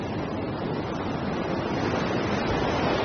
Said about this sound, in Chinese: 12级风暴掀起冲天巨浪，平台在风浪中上下起伏，南海天气瞬息万变。每年近100天时间，平台和作业人员都要直面大风大浪。